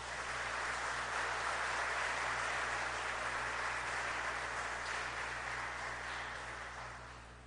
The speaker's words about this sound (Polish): Wielkie brawa.